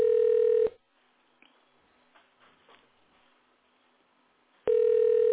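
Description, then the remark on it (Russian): A telephone ringback tone: a loud, steady mid-pitched beep sounds briefly, followed by about four seconds of near silence, then the same tone returns as the call goes unanswered. “Или телефон на беззвучно поставлен?”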